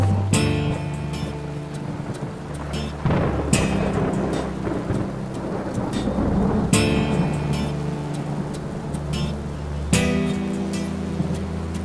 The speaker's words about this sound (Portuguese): A chuva cai lá fora e eu aqui pensando, refletindo na vida e vários planos.